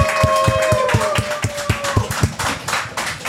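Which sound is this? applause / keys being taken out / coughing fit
applause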